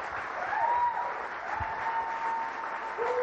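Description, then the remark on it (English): Sustained applause from an audience at Next Level Church, a dense, steady wash of many hands clapping at once, fairly loud and continuous throughout with no voices standing out. “No, y'all can keep clapping.”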